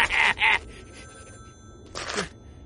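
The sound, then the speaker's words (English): A telephone rings in a quick double burst, pauses, then starts ringing again, fairly loud against a quiet background. “If there are any electronic pulses in there sending out signals, ringing telephones...”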